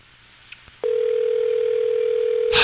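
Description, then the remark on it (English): After a few faint clicks, the steady electronic ringing tone of an outgoing phone call placed on air from a radio studio starts and holds one even pitch for nearly two seconds. It is clear and fairly loud, ending in a short burst of noise. “Nothing like on-air phone ringing.”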